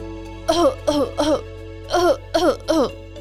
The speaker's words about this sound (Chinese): 因为他又一直一直疯狂的咳嗽。